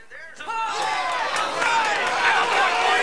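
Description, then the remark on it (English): A large stadium crowd at a baseball game, heard on a TV broadcast, cheers wildly: a dense roar of many voices that swells in after a brief quiet start and stays loud and sustained. “The crowd at the stadium on the TV cheer wildly.”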